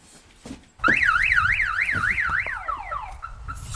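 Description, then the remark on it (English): A car alarm blares, cycling through a rapid warbling up-and-down tone, then shifting into a series of descending chirps before cutting out, loud and alone. “What, in case someone steals it? When was the last time you heard an alarm up here?”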